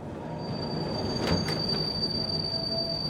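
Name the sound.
tram running on rails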